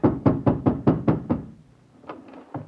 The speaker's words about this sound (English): I ran back home in despair. I hammered on my landlady's door and...